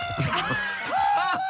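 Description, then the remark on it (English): A chicken lets out a loud, drawn-out squawk with a rising, wavering pitch, alone. Its two-part call sounds uncannily like a person shouting the name "Laura". “This is a chicken shouting Laura.”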